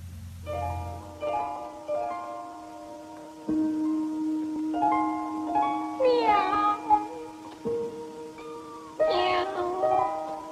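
animal, cat meowing

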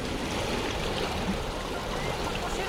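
nature, howling wind

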